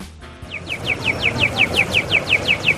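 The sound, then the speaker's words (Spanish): A pedestrian crossing signal's electronic bird-chirp repeats in a steady, rapid rhythm, about a dozen bright descending tweets, over a low rumble of street traffic. “El de los pajaritos, ¿eh?, que escuchamos en todas las ciudades de nuestro país y que es ese sonido tan característico y tan reconocible de nuestros semáforos.”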